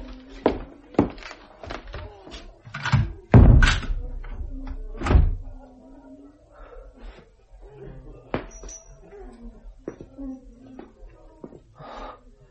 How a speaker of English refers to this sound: Stay here. Rest well. I will lock the door after me.